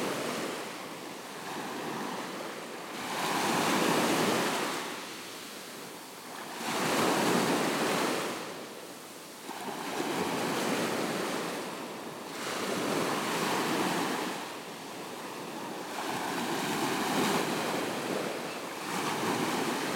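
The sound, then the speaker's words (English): Ocean waves wash in at dusk as it slowly gets dark, with a broad, hissing roar, swelling and easing in a steady rhythm about every three to four seconds. No one speaks, and a light wind rumble sits underneath. “And what a beautiful sound of the waves coming in there.”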